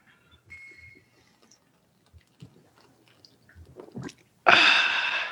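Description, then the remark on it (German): A faint glassy clink during a beer toast ("Prost"), then small wet swallowing and sipping sounds, ending in a loud, sustained fizzing hiss of beer; no one speaks. “Und da wir ein Stammtisch sind, fangen wir natürlich an mit einem Prost. Prost. Prost.”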